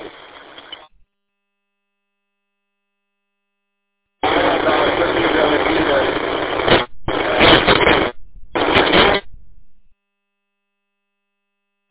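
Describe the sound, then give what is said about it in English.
Bursts of harsh radio static crackle loudly: a short hiss, a pause, then a long burst that breaks into two shorter choppy bursts before cutting to silence. “Oh, you got static.”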